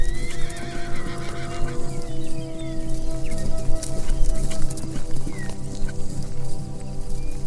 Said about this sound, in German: Die Wildpferdmama und ihr Fohlen folgen euch. Fröhlich wiehert die Stute dir zu, als du dich umblickst, um nach ihnen zu schauen.